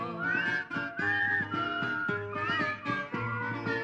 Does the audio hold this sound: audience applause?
no